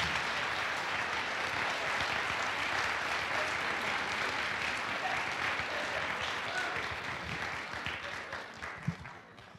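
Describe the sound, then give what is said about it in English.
An audience at a storytelling show applauds its storytellers steadily, dense overlapping clapping filling the room for several seconds before gradually thinning out near the end. “Can we have another round of applause for our storytellers?”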